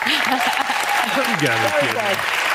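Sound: studio audience clapping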